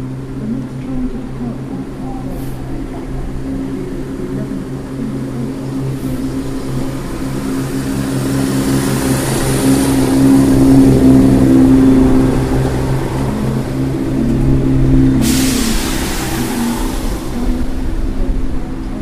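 A diesel rail car departs heading for Glasgow, its engine droning loudly, the deep throbbing swelling as it pulls away, followed by a brief sharp hiss near the end.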